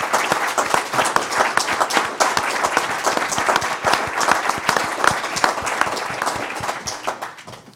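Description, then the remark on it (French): An audience applauds in thanks at the start of a meeting, many hands clapping in a dense, crackling wash that holds fairly loud throughout and fades slightly at the end, with no voices over it. “Et par conséquent, je voudrais d'abord lui dire merci et que nous lui disions merci et que nous l'applaudissions pour commencer.”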